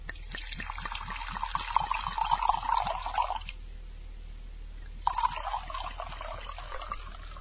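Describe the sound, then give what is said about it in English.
Wine pours steadily into a glass for a few seconds, stops briefly, then a second shorter pour follows. The gurgling is clear, with no voices. “Let me pour it for you.”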